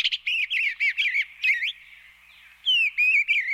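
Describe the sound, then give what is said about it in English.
Eastern bluebird calls: a run of short, soft warbling notes in quick succession, a brief pause, then another burst of gentle chirps, clear with no other sounds. “Thanks in large part to this community-led advocacy, eastern bluebirds are now thriving.”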